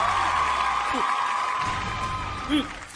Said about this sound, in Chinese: 那么在这里呢，我们好嘛，我们也再一次 放鞭炮来， 把掌声送给他们啊，同时祝贺他们能在今天的比赛中 有一个圆满的成绩。